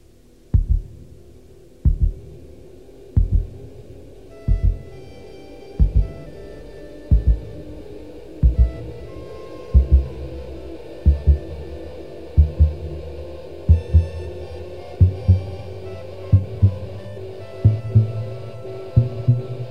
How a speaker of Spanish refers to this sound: Observa que poco después de que se puede escuchar con claridad el latido del corazón, es decir, el motivo 1, un saxofón soprano presenta el motivo 2.